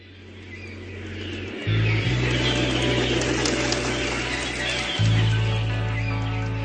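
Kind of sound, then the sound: bird, birds calling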